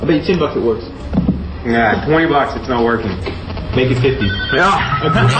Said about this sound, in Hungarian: Most hívja, csörögnek a telefonon.